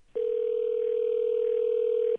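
A single telephone ring tone as heard over the line, calling a home outside Boston before the answering machine picks up: one steady, unbroken electronic tone lasting about two seconds, clear and even, with no voices around it.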